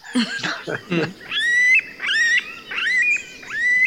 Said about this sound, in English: The noise is totally different than outside at the sun, because all the animals producing their songs or their noises in the forest.